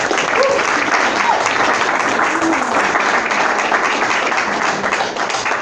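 A crowd applauds steadily for several seconds, a dense, even wash of clapping that holds at a fairly loud level throughout, with a few faint voices mixed underneath.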